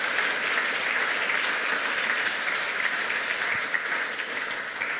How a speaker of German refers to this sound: Applaus bitte mal für Andreas Frisch und Rena Tangens.